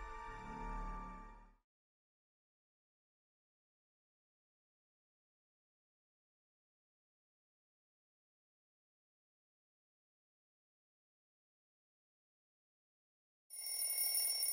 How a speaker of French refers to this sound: Je dois me lever, le réveil vient de sonner.